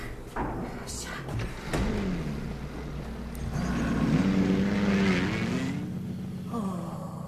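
A car engine idles outside, where the car waits to pick people up, with a steady low rumble, swelling a little louder midway, while a few brief clunks and thuds sound over it.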